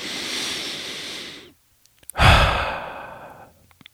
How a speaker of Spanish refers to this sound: ¿Cómo hacerlo? Djokovic comienza con la respiración consciente. Una respiración profunda.